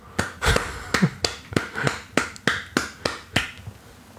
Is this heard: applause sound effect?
yes